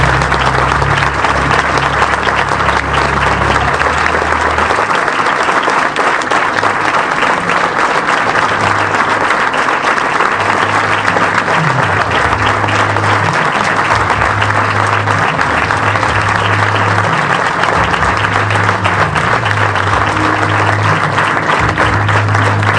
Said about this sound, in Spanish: Un aplauso para los Murciélagos.